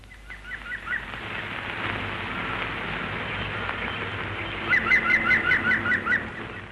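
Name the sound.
green woodpecker call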